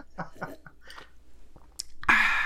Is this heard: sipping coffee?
yes